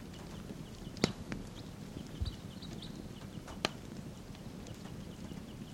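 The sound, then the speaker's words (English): Faint, high chirping calls from wild birds flying to and from a tree, a few short notes scattered over a low rumbling background, with a couple of sharp clicks and knocks in between. No one speaks. “Wild birds calling.”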